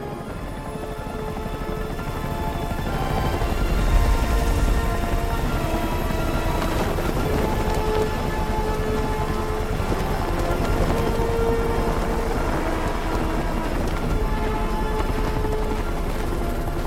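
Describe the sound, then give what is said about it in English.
A helicopter comes in to land at a rooftop helipad in Washington, D.C. at night, its loud, steady rotor thrum and whining engine holding a constant droning roar with faint chopping pulses as it descends and settles, with no voices. “They come into land at a rooftop helipad.”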